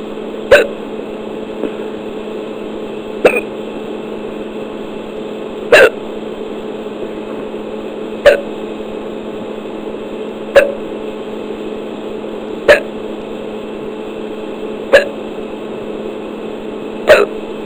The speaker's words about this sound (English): Very difficult for me to get rid of the hiccups. Usually, whatever I try, they stop for a minute or two, and then they start up again.